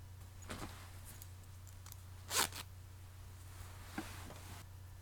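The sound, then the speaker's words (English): A pants zipper is pulled open in one loud, quick rasping burst, with a few softer, shorter zips and clothing rustles before and after it over a steady low hum. No one speaks. “Unzip those pants.”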